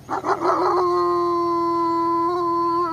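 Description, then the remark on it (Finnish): A wolf lets out a long, steady howl that holds one sustained pitch after a few rough, broken yelps at the start. It is loud, with no other sounds around it. “Sudet ovat vuosituhansia erikoistuneet tekemään juuri tätä. Älä pelkää tätä.”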